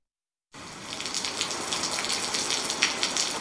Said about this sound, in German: Es regnete. Nein, es goss.